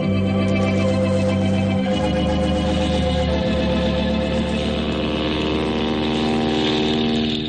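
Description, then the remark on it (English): A passenger plane's engines drone loudly and steadily, a rich buzzing hum whose pitch shifts downward a couple of times as it continues, with no voices present. “Boy, those passenger planes are getting bigger every day.”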